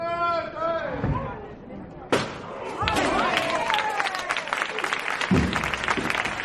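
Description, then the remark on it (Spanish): A procession float, a canopied palio with carrying poles, edging out through the pointed-arch side door of the church of San Bernardo: a voice calls out, then heavy wooden thuds land and a crowd bursts into sustained applause amid chatter. “como este de la Virgen del Refugio, hombre, procurando que quepan los varales en esa ojiva superior de la puerta lateral del templo de San Bernardo. Este es el sonido.”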